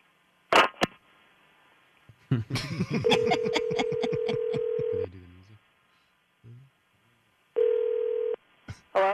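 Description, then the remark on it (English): A steady, mid-pitched telephone dial tone after a disconnected phone call hums for about two seconds beneath a burst of laughter, cuts off, then returns alone for a shorter stretch, with handset clicks around it. “I'm sorry, we got disconnected.”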